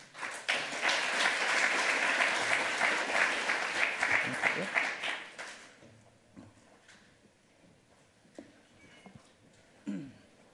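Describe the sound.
A round of applause, dense and loud, swells quickly and holds for about five seconds before fading off. Scattered murmurs and faint voices follow in the quieter stretch afterward.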